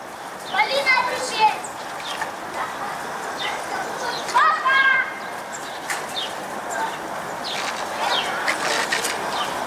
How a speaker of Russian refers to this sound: Продолжается рытье котлова на границе с детским садиком «Солнышко». Дети в котловане играются.